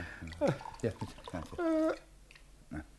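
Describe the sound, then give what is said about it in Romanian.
A brief splash of a little water poured into a drink in a glass, a short rising gurgle lasting under a second, surrounded by people talking. “Sache, stropește, mă rog, uite, cu o leacă de apă, că nu mai pot să beau.”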